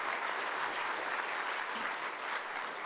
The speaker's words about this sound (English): Let's give them a big clap for reading so well.